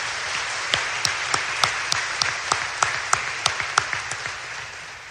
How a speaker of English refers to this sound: Let's give Mr. Vasey a nice round of applause.